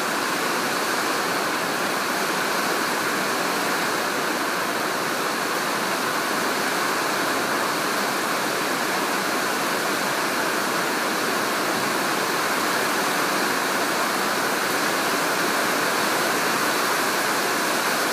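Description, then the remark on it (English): Heavy rain pours down in Shah Alam, Malaysia, in a dense, unbroken roar, a loud, steady hiss of water that holds constant for the whole stretch with no voices or other sounds. “And I know that we get so much rain in Ireland that this isn't unusual, but the scale of this and the strength of this rain is.”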